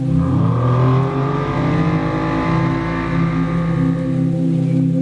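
Powerful racing boat engines roar and rev loudly and continuously, their droning pitch climbing and shifting as they accelerate, unbroken for several seconds with no voices.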